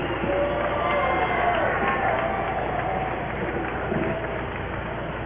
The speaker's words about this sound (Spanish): Y como primer orador tenemos a la compañera de Amistingo Morelos. Un fuerte aplauso para ella y justicia para Salín.